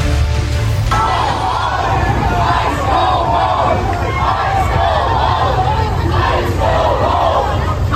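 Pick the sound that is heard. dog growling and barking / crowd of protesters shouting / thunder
crowd of protesters shouting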